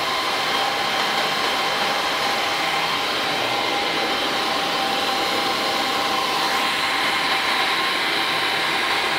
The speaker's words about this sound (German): So, jetzt schalten wir erstmal die Klimaanlage wieder ein.